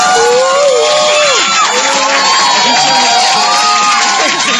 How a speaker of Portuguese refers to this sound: Palmas para os ouvintes que entraram em contato com a gente